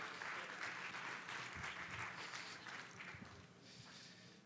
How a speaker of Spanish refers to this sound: Bien, un aplauso para ellas, por favor.